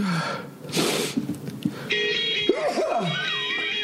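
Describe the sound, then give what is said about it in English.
A single sharp, hissing sneeze bursts out early on, followed by a stretch of steady, horn-like electronic tones whose pitch bends up and down. “I'm going to sneeze.”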